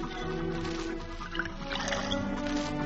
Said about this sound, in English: Would you please pour me another bourbon, Mr. Fowler? Yeah, sure.